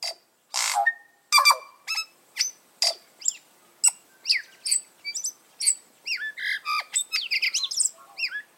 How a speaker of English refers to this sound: But the tui is best known for its voice. Each tui's complex song is slightly different, a colorful mix of musical notes and offbeat sounds.